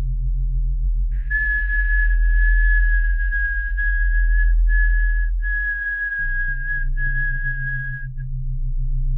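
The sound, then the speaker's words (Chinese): A person whistles one steady, high note for about seven seconds, broken by a few brief pauses, over a constant low hum in the background. “我会用吹口哨的方式帮助你排尿。”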